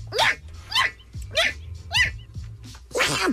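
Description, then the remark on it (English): A small Pomeranian dog sneezes in quick succession, about six sharp, snorting bursts roughly half a second apart, fairly loud over a low background hum. “That's a Pomeranian sneezing.”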